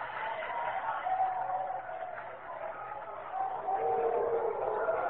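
A large baseball stadium crowd roars steadily throughout as St. Louis pitcher Bob Gibson pitches against New York, a dense continuous wash of cheering with every pitch and every out that swells louder toward the end, sounding somewhat muffled.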